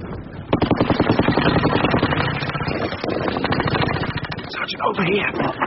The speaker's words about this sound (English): Ran through a wall of machine gun fire, Sergeant.